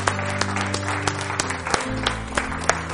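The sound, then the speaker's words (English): A church audience claps steadily after a prayer, a dense wash of many hands with a few sharper claps standing out, while a sustained low musical chord hums underneath throughout. “Let's give my hand clap.”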